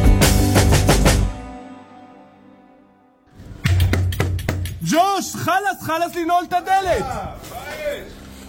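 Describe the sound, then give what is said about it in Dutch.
A burst of sharp knocks on a wooden doorpost by an Israeli soldier in a TikTok video from Gaza, then a pause, more hard raps, and his loud shouting voice calling on someone to open the door of a destroyed house. “We horen hier een Israëlische militair die op een deurpost klopt.”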